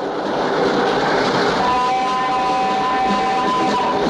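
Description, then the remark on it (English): A train roars out of a tunnel opening into a vista of blue sky and white mountains in a loud, continuous rush of rumbling noise, with a thin high-pitched whine rising out of the din partway through. “We shoot through the opening of a tunnel into a dramatic vista of blue sky and white mountains. On board the train, passengers in Yuri's compartment try to hang on, pitching violently back and forth with the movement of the train.”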